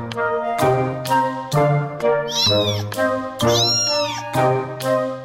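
A cat meows repeatedly and loudly, a rapid series of about seven calls, some rising into drawn-out, wavering yowls, with no talking.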